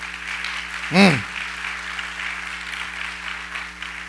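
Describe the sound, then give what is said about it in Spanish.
An audience applauds the Lord at night in a steady, dense wash of clapping that continues throughout, with a single loud voiced whoop that swoops up and down in pitch about one second in. “¿Cuánto un aplauso al Señor en esta noche?”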